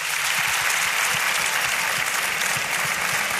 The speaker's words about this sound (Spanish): Así que, por favor, un aplauso a Cadena Dial, que son los mejores.